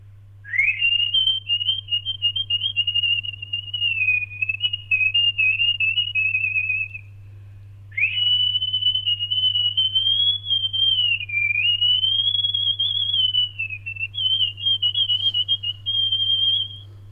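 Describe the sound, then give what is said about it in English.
A person whistles over the phone a long, warbling, nightingale-like melody, loud, in two sustained phrases separated by a brief pause, with a low steady hum underneath and no talking. “It's like a nightingale, isn't it? It's beautiful.”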